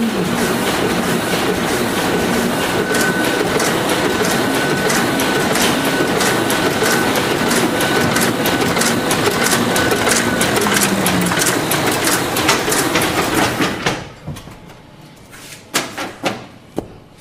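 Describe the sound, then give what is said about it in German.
An offset printing press prints a brochure, the ink going from roller to plate to rubber blanket to paper, running with a loud, steady mechanical clatter and rapid rhythmic ticking, then winding down abruptly, leaving a few scattered clicks and knocks. “Das Papier wird nicht bedruckt von der Platte, sondern vom Gummi.”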